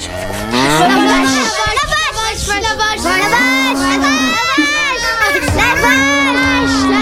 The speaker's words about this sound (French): La vache.